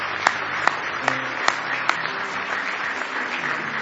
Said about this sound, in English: Do you love Him for everything He's done for you? Why don't you give Him one big hand clap of praise tonight?